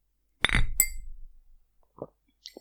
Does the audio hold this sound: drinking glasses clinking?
yes